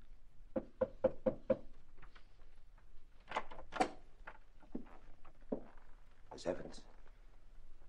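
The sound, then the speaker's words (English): Four quick, evenly spaced knocks rap on a door, followed by muffled voices and a few scattered thumps and rustles. “Someone's at the door, Dave.”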